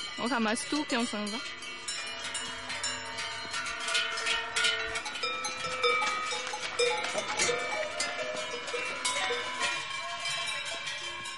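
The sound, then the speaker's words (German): Many cowbells clank and jangle continuously as a herd of cows is driven down the alp to a lower level, their uneven overlapping clangs filling the scene, with faint voices or animal calls mixed in underneath. “Heute ist der kleine Alpabzug. Man bringt die Kühe eine Ebene tiefer.”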